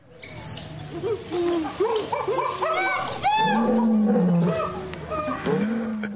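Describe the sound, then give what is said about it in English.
Voices imitate a jumble of zoo animal noises, roars, hoots and howling calls, one after another and overlapping, loud for several seconds without a pause. “Can we have some zoo noises?”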